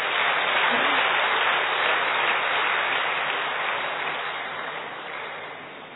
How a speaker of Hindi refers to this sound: बहुत अच्छे, अब ताली बजाओ खुद के लिए।